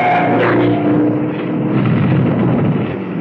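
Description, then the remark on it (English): Two motorcycle engines roar loudly past down the length of a garage, a dense throaty growl with a brief whining edge at the start, holding steady for about three seconds with no voices. “The headlights separated as two motorcycles roared down the length of the garage.”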